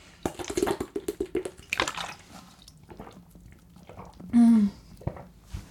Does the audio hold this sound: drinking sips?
yes